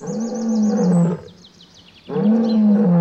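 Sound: lion roaring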